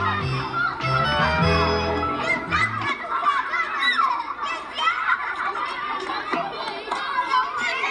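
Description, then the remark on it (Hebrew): Lively outdoor noise of children playing, climbing and jumping on a sculpture that serves as a playground, with overlapping high-pitched shouts and chatter filling the scene continuously, and a low hum underneath during the first few seconds. “בעצם הוא מעין מגרש משחקים לילדים, שילדים צריכים לעלות עליו ולשחק, לקפוץ, וזה גם קורה. ילדים מסתובבים סביבו, אנשים מבוגרים לפעמים מעיזים לעלות, לפעמים לא, אבל הפסל כל ערכו הוא בכך שאנשים יכולים לעלות עליו.”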